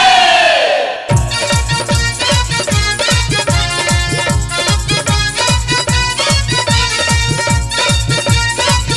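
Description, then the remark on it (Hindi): A brief rising shout opens, then a crowd of voices chants the devotional jaikara "bol sache darbar ki jai" loudly in unison over a steady, pounding drumbeat, the victory chant sustained and energetic throughout. “जयकारा तेरा वालिदा बोल साचे दरबार की जय।”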